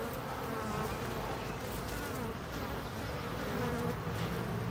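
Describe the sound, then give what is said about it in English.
A dense, steady drone of many bees buzzing close together around the hive, a continuous hum with shifting tones and no pauses, filling the whole few seconds without any voices. “Female bees going out and working, foraging, male bees there to fertilize the queen.”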